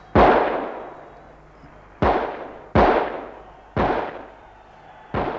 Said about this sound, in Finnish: Vanha Jack Brown, monet kovat kokenut silmäpuoli eränkävijä, nostaa pyssyn poskelen ja ampuu summan mutikassa aivan tähtäämättä 5 laukausta.